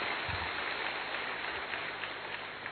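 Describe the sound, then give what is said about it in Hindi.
A crowd claps steadily in a dense, continuous wash of applause that holds at an even volume for a few seconds, with no voices rising above it. “तो ताली तो बजा लें उस खुशी में।”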